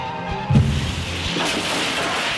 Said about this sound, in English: It's quite ridiculous. The taxi has smashed into a tree at full speed.